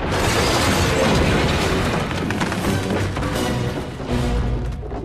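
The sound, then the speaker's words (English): In Over the Hedge, a truck driven by the foragers, with Hammy aboard, careers into a sign and crashes into Gladys's house with a loud, sustained roar of smashing and rumbling debris that stays heavy for several seconds, with booming low thuds under the clatter and no voices. “Hammy waves just before it crashes into her house.”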